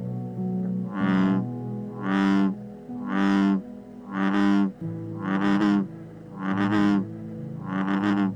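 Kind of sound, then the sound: animal, bullfrog bellowing call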